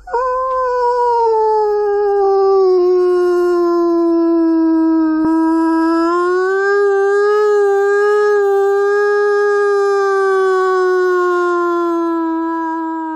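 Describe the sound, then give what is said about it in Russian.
A person imitates a wolf with one long, loud, unbroken howl lasting over ten seconds, its pitch dipping slightly and then rising, with no other sounds around it. “Ваба – это вой, когда человек имитирует звук.”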